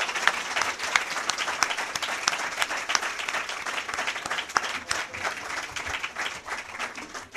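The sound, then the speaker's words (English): An audience applauds steadily for several seconds, welcoming debate candidates Republican Lee Terry and Democrat Jim Esch to the podium: a dense wash of many hands clapping at an even, sustained loudness, with no voices standing out. “There will be an opportunity to thank them with applause again at the end, but in between, during the debate, please refrain from applause and other outward expressions of your feelings, although I know that will be difficult.”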